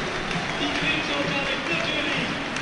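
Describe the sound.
A football stadium crowd applauds substituted player Fabian Kloß, a steady, dense wash of clapping and murmuring voices that holds at an even level for the whole moment.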